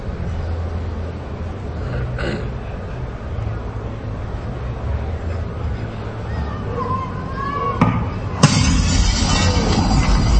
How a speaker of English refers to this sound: You won't just hear glass breaking. You'll hear a slightly battered and bruised baseball fly past your right ear. As a cloud of debris blooms, and shards of glass trail overhead.